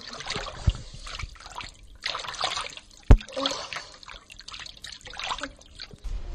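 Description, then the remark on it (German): Water from a stream in Munich trickles and babbles steadily, with a continuous bubbling wash that swells and eases in waves, and one sharp knock partway through. “Und dann hat irgendein schlauer Münchner ein Freibad an der Stelle gebaut und da fließt der Bach durch und da hat er dann teilweise auch angeboten, dass die jungen Buben und Mädchen schwimmen lernen.”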